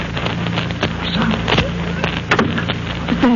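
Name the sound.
two gunshots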